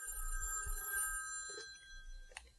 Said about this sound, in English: It's the large-scale adventure epic of a young American couple who discovers that their phone is ringing and they should answer it. Hold on one moment.